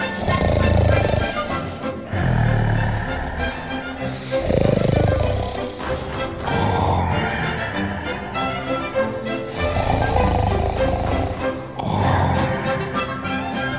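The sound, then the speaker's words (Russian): Loud, rumbling snores of a wolf asleep on the ground in the sun, repeating in slow, steady cycles about every two seconds, with deep growling inhales, dominant over a faint musical background. “Греет на солнышке разбухший живот и храпит.”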